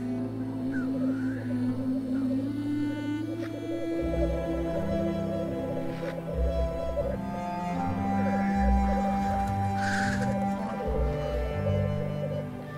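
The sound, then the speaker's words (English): Black grouse calling at a lek on a moor, their lekking display at the new year: a steady, overlapping chorus of low bubbling, cooing warbles that rolls on without pause, with occasional higher hissing notes above. “Until the black grouse once again chime in the new year with their graceful lekking display.”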